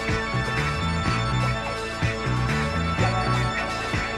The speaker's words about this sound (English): Tubular bells.